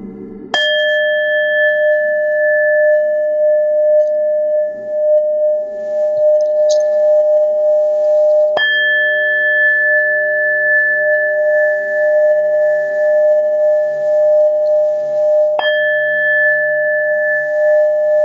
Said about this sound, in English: And now with each chime of the ball, this root chakra opens even further.